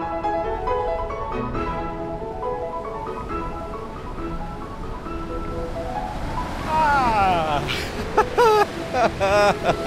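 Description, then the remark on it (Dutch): Steady roar of strong wind and breaking surf at a beach on a fairly cold day fills the whole recording, loud, with sustained tonal notes and a voice rising over it toward the end. “Lekker dagje naar het strand. Maar het is hier nog best koud. Er staat een straffe wind.”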